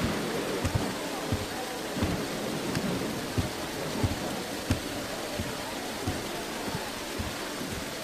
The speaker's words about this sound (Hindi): ये बारिश भी तुम्हारे मुबारक कदमों की बरकत से है मेरे बच्चे। खुशामदीद।